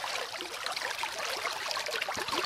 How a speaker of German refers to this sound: Die Walliser Wasserleiter, die Zuohne, kennt man heute vor allem als Wanderwege. Es ist ungeheuer beruhigend und erholsam, neben dem gurgelnden Wasser zu laufen.